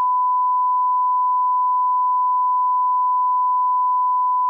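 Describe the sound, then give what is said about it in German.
A single steady censorship bleep, a pure high-pitched tone held unbroken at constant loudness for several seconds, with no speech audible underneath or around it. “Das haben wir letztes Mal schon gemacht mit dem Piepsen”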